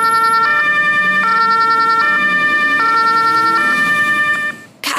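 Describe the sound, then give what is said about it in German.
A loud ambulance siren wails in a steady two-tone pattern as the ambulance drives past a zebra crossing without stopping, alternating high and low pitches at a regular pace, with traffic rumble underneath before it cuts off abruptly. “Klar, es müssen hier alle gewarnt sein und warten, wenn ein Rettungswagen hier langfährt.”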